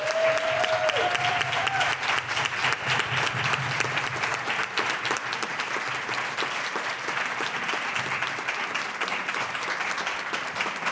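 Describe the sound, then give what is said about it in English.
Sustained standing ovation from a live audience at the Black Literacy Matters event, a dense steady patter of many hands clapping at a constant loud level throughout, with a brief faint whistle early on and no speech. “Can we please give a round of applause?”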